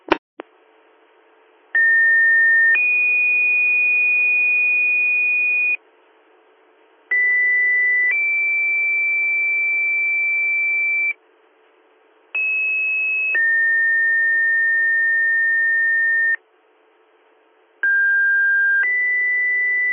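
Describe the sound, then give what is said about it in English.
Weekly fire pager test tones for West Union, Troopsburg, Greenwood, Canisio, Jasper and East Campbell: four loud two-tone pages, each a brief steady electronic tone sliding straight into a longer held tone of different pitch, separated by short pauses over a thin radio hiss. “Stand by for your weekly pager test.”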